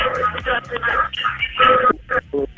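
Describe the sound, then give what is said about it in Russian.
A listener's telephone call connects on a radio broadcast: thin, band-limited phone-line audio with muffled voices and broadcast sound bleeding through, continuous and fairly loud for a couple of seconds. “Я вас перебью, у нас звоночек.”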